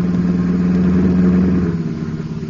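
A car engine hums steadily at a low pitch, loud and continuous, then eases off slightly toward the end as the vehicle drives by. No voices are present.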